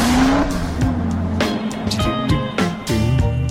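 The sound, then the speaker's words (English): A traffic-segment sound effect: car engines roar and tires squeal in a short, busy burst of traffic noise, with several screeching skids and revving passes stacked close together, loud. “Let's take a look at traffic. Traffic!”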